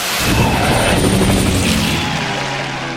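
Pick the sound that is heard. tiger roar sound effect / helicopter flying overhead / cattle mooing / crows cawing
helicopter flying overhead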